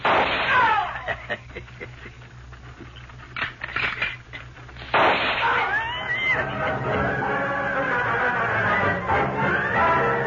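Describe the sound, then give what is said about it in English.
A volley of sharp gunshots cracks out in an irregular burst for several seconds, some distance ahead along a wagon trail, before a dense, sustained tonal passage abruptly takes over. “Lone Ranger and Tonto were on the wagon trail when they heard the gunfire some distance ahead.”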